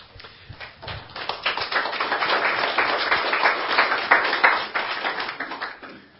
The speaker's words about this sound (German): und dann würde ich sagen, das Klatschen und Murren deutet auf Diskussionsbedarf hin, dann würde ich gerne ins Publikum geben.